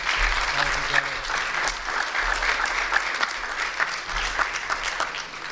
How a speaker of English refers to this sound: I'd like to thank you for coming up and sharing. Could we have an applause for them, please?